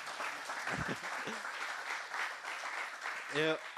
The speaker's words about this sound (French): Eh ben, on peut dire merci au Seigneur, on peut applaudir Dieu.